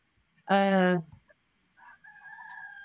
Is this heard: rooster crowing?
yes